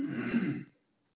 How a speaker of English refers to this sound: Excuse me, had to clear my throat.